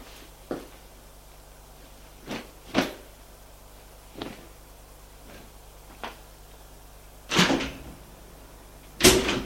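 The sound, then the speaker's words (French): An apartment door closes with a run of soft wooden clicks and clunks, then two louder, sharper thuds near the end, with no talking. “Elle entend du la porte de son appartement se refermer.”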